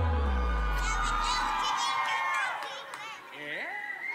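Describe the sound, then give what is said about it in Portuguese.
An audience at a live music show shouts and cheers loudly, with high-pitched screams and whoops rising over a dense, continuous roar of many voices, energetic throughout. “Quem gostou, dá um gritinho.”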